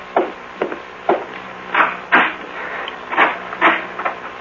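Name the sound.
door being opened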